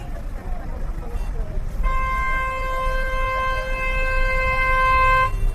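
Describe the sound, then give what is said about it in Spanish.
A car horn blares in one long, steady honk lasting about three and a half seconds, loud, over a constant low rumble of chaotic street traffic in Erbil. “Charlamos en su automóvil mientras me hace visitar una ciudad con un tráfico caótico.”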